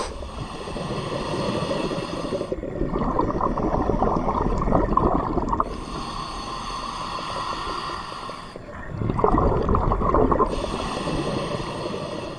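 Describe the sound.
A voice imitates breathing underwater through a regulator: hissy inhales alternate with low, rumbling, gurgling exhales over about two slow cycles, steady and fairly loud, with no talking.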